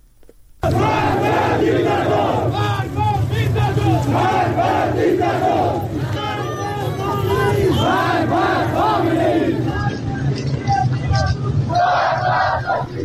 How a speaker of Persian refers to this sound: معترضان در برخی شهرهای سنی نشین در ایران روز جمعه پس از نماز جمعه به خیابان‌ها آمدند و شعارهای ضد حکومتی سر دادند. در خاش و زاهدان مردم ضمن حمایت از مولوی عبدالحمید امام جمعه شهر زاهدان علیه علی خامنه‌ای شعار دادند.